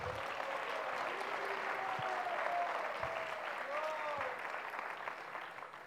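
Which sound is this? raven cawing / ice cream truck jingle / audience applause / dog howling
audience applause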